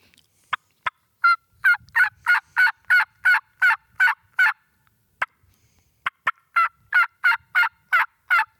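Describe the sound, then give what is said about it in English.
Two loud series of turkey yelps imitated on mouth calls by two callers keeping the same rhythm but sounding like two different hens, one pitched a little lower; each opens with a couple of short clucks and then about eight evenly spaced, raspy yelps, separated by a brief pause. “I'm going to let him do a series of yelps, and then I'm going to do a series of yelps”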